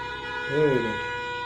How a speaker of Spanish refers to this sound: ¿Cómo sí, en serio esto? Se le trabó ahí la bocina.